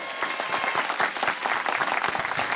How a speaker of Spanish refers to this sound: Un aplauso para ella.